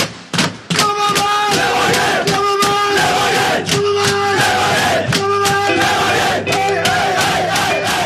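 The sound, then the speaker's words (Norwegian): The Levanger football team cheers and chants loudly in the Levanger locker room after beating Brann 4-1 in front of 2,500 spectators, many voices shouting together in a rowdy, sustained celebration with rhythmic yells that keep rising and falling. “i Levanger-garderoben, der Trønderavisa var på plass med kamera, der var det stemning”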